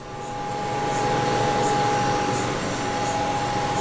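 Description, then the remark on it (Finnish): Pumps churn steadily in a cryogenic lab at Aalto University, where experiments run in cryostats near absolute zero: a dense mechanical rumble with a sustained high tonal whine and faint periodic pulses above it, loud and continuous with no talking. “Tältä kuulostaa laboratoriossa, jossa kokeita tehdään hyvin kylmässä, lähellä absoluuttista nollapistettä. Pumput rouskuttavat taustalla.”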